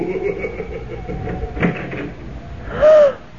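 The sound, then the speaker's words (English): A door is opened: a short click midway, then a loud, wavering hinge creak that swells and fades near the end, over a faint background hum. “Well, I'm going to open that door.”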